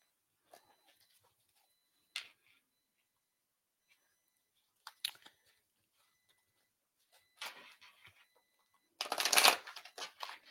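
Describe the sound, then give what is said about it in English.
A psychic advisor shuffles a deck of cards: a few brief, papery riffles spaced out, building to a louder, longer rustling burst at the end. No one speaks. “While I'm shuffling, I want to remind you guys that I am a professional psychic advisor”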